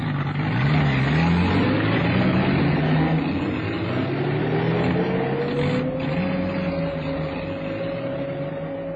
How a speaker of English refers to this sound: At 2:30 the following morning, November the 11th, 1955, a convoy of vehicles moved out of Naivasha.